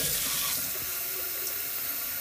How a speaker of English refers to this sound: Okay, move the thing away for this water sound.